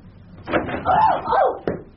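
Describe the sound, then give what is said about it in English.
A door creaks open with a drawn-out, wavering hinge squeal lasting about a second, followed by a sharp knock of the latch or frame. It is moderately loud. “You might miss something listening through closed doors.”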